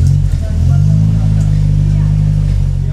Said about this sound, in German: Ein Motor wieder zum Laufen bringen.